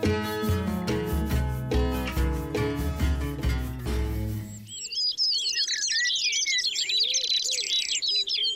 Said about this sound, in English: This week, I'm going to be investigating birdsong. Why birds sing, how they sing, and do we even notice them anymore? I've come to the Devil's Glen in County Wicklow, and these are the woodlands of my youth.